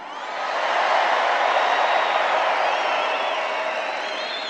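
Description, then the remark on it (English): A large crowd in Arizona, filling the venue up to the rafters, cheers loudly and without pause, a dense roar of voices mixed with clapping and a few high whistles and whoops, swelling in at the start and holding steady. “Look at this crowd. It's amazing.”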